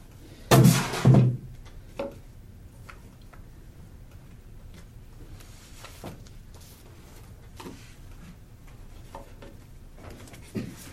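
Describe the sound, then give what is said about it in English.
Paper notes rustle in two loud, crackling bursts at the start as the speaker switches to notebook number 2, then softer scattered crinkles and light ticks of handled pages continue quietly, with no one speaking. “The sound on the tape is my rustling of my notes.”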